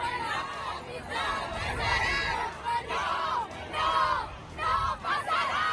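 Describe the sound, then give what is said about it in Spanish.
A loud protest crowd at the 8M demonstration shouts insults and jeers at Ciudadanos party representatives in overlapping, angry voices, surging in repeated waves of yelling over a constant rumble of noise for the whole stretch. “tuvieron que abandonar la manifestación junto a otros miembros de su formación al sufrir agresiones verbales, gritos, insultos.”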